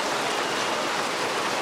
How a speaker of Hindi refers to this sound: वर्षा हो रही है लेकिन आप सुनना जरूर।